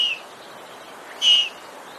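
A baby lynx gives two thin, high-pitched whistling calls, a short one at the start and a brighter, longer one a moment later, with quiet background noise between.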